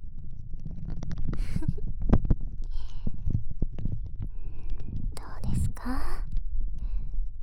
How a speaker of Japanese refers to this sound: 指の感触に加えて、このクリームが泡立つ音もゾクゾクしませんか？もしこの音がお好みなのであれば、もっともっと激しくして差し上げます。ほら、このように。